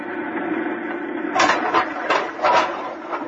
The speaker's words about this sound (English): I'm going to fill the lock. Here goes the outer door.